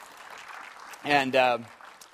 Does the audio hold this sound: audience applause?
yes